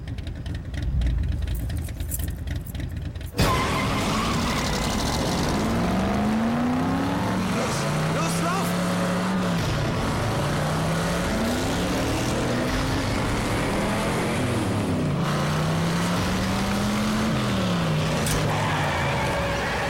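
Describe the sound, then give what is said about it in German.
A car drives past, its engine revving repeatedly so the pitch climbs and falls in waves over steady road and wind noise, with a burst of rougher noise at the start. “Wer fährt da deinen Wagen?”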